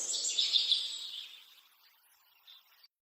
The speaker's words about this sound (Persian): صدای پرنده ها میرسه به گوشم.